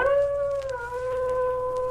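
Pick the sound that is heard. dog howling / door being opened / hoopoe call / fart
dog howling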